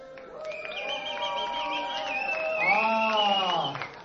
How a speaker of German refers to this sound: Lockt ihn mal ein bisschen raus mit einem kleinen fordernden Applaus.